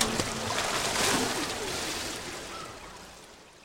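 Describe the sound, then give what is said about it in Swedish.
Water splashing and sloshing steadily from a Paralympic swimmer heading for the London 2012 Paralympics, with a broad wash of noise that slowly fades; a faint voice is briefly audible at the start. “Plaskade och sa simmaren Maya Reichards på väg mot Paralympics i London 2012.”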